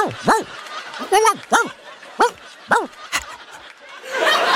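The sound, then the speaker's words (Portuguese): A person imitates a dog barking, letting out a series of short, yelping woofs in an uneven rhythm, fairly loud, with a brief breathy noise at the end. “Cremosinho, que você tem ali uma... Bom, vou falar na linguagem dele.”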